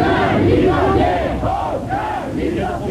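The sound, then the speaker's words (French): A large crowd of dozens of LIP workers shouts and claps around a car trying to push through them, loud overlapping voices rising and falling in a dense, continuous roar that holds steady for the whole stretch. “Henri Giraud est donc reparti au volant de sa voiture en tentant de se frayer un passage au milieu de dizaines de LIP, criant et tapant dans les mains.”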